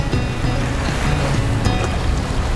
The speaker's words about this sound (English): Whoa, this is a little hairy here, isn't it? You wanted adventure. The waves are crashing up against the port wall there. It's white everywhere.